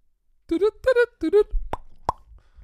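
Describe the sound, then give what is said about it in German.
A short run of three voiced, sing-song syllables is followed by two crisp plop sounds, about a third of a second apart, each sharp and brief against a quiet background, marking that a voice message was deleted. “Und dann plopp, diese Nachricht wurde gelöscht.”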